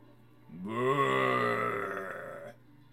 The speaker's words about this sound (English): A growl from outside makes you quiet down.